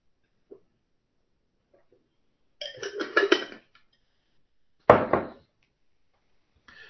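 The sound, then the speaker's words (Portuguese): Someone sips water in a quiet pause, with a second of wet swallowing and slurping sounds followed by a short, sharp throat-clearing burst, then near silence. No one speaks. “Dá uma licença que eu vou tomar um golinho d'água.”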